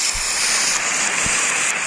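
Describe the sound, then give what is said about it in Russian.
A rain sound recording played for falling asleep: a steady, dense hiss of rain pours down evenly with no pauses, bright, with a couple of soft low thumps beneath it and no voices. “Принято слушать дождь для того, чтобы засыпать. Сейчас. А ну, дождь.”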